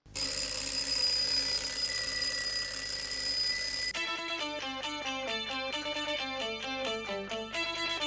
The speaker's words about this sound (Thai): และหากว่ากลิ่นของนาฬิกาปลุกรุ่นใหม่นี้ยังไม่สามารถทำให้คุณตื่นได้สำนักข่าวบลูมเบิร์กบอกว่านาฬิการุ่นนี้จะปรับโหมดมาปลุกด้วยเสียงปกติแทนครับ